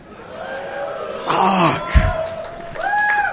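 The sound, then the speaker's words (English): A large crowd cheers in a steady roar, with scattered high whoops and yells rising above it and a brief low thump near the middle. “Look at this freaking crowd.”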